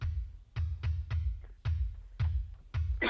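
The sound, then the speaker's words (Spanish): A man coughs repeatedly before starting to speak, about seven sharp coughs in quick uneven succession, each a short harsh burst with a heavy low thump, and no talking in between. “No, es que pensaba que no se me oía, estaba pegando la tos antes de arrancar.”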